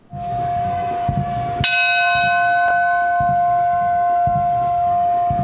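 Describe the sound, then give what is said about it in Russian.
A church bell at a military church on a Russian military testing range rings on a Sunday morning with a bright, resonant strike that hangs in long sustained overtones, a second strike following shortly after over a steady low rumbling background. “Утром воскресного дня, когда в воинском храме 4-го государственного звонит колокол, особо зримо в расположении ощущается присутствие Божие.”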